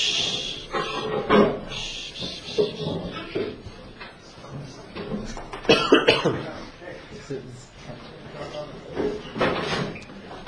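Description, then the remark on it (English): Chairs being carried across and set down, with a few irregular clunks and scrapes, some louder knocks standing out, under a murmur of indistinct voices. “Ariel's bringing the chairs across.”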